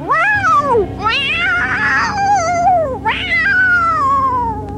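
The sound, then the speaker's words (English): Altered cats from an out-of-control experiment at the Health Science Center of the State University of New York at Stony Brook yowl loudly and continuously in long, wavering, rising-and-falling wails, several overlapping cries, with a low rough rumble underneath throughout. “Deep within the Health Science Center at the State University of New York at Stony Brook, the most terrifying experiment in the history of science is out of control. Altered cats.”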